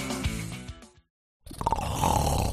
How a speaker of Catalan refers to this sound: ¿Sabes que casi la mitad de los adultos ronca de forma ocasional? Si es a ti a quien le toca ir al sofá.